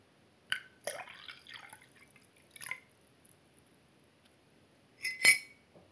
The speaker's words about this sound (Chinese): 少爷，您刚刚说了很多话，一定口渴了吧？我为您倒水。